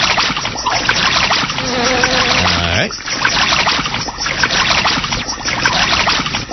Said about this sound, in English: I'm in the water again, so I'm swimming again with the up arrow key very quickly. And I hopefully won't drown in this water here.